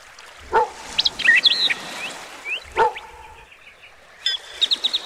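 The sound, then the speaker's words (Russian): A dog named Dozor, playing with its young owner on a lake shore, gives two sharp, separate barks a couple of seconds apart outdoors, while birds chirp and twitter steadily in the background. No one speaks. “Андрей играл со своей собакой на берегу озера.”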